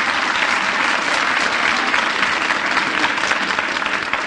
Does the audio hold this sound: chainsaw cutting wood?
no